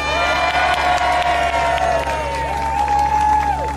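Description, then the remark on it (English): A large audience of supporters of Palestine claps and cheers loudly and steadily to welcome a speaker, with shrill whoops and whistles rising above the dense wash of applause throughout. “So, with a nice loud round of applause and some cheers,”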